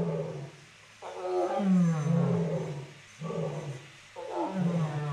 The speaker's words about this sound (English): Cats are talking to each other. Yes, so we had a disagreement up front with a couple of tigers, and tigers disagree by barking at each other, and lions respond to sounds in the distance by responding with their own pride numbers.